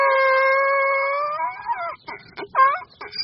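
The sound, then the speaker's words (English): A donkey brays loudly on its own, opening with one long, steady, tonal call and breaking into a series of choppy, wheezing bursts that rise and fall in pitch. The donkey is at the Peaceful Valley donkey rescue sanctuary's paddocks. “At any given time, his paddocks are home to 1,000 of the noisy, big-eared beasts.”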